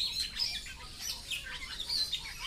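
Bali starlings, an endangered all-white species with black wingtips and a blue eye mask, calling: a busy, continuous stream of overlapping chirps, whistles and harsher squawks, steady throughout, with no voices.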